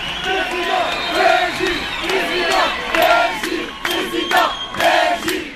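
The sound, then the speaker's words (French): A dense, young crowd at a political rally cheers and shouts in unison for party president Beji Caïd Essebsi as he sings the national anthem, voices rising in rhythmic chant-like bursts with sharp whistles and yells cutting through, loud throughout. “À près de 88 ans, il entonne avec fougue l'hymne national devant une foule 3 à 4 fois moins âgée que lui qui l'acclame.”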